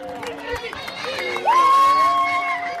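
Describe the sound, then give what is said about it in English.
At a traditional Nuba Mountains wrestling match in an open field in Sudan, a crowd around the winners cheers, shouts and throws money in a steady, busy roar; halfway through, a loud, high, sustained cry or whistle rises above the noise and holds for over a second. “People crowd around the winners, cheering them on and throwing money at them.”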